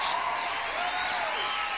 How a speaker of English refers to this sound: And then there's the cheering.